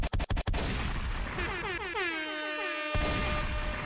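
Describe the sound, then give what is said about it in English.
A quick burst of about four sharp gunshots fired into the air cracks out in rapid succession, then a loud blaring horn-like effect with swooping tones takes over until the end. No one speaks. “Gunshots in the air for all the fallen ones.”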